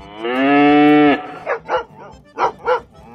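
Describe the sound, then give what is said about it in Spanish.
A cow with a dog-like face, from the pampas, gives one long, loud, drawn-out moo lasting about a second, then four short, sharp dog-like barks follow in two quick pairs. No talking. “Estamos hablando de una vaca con cara de perro.”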